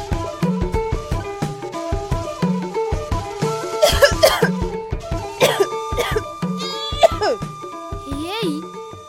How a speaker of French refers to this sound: Fais tousser comme ça. J'espère que c'est pas cette nouvelle maladie affreuse que tu as contractée, ce coronavirus. Tu vas chercher quoi là? Je suis juste enrhumée. Et comment tu peux être sûre que c'est un rhume de la façon dont tu tousses là?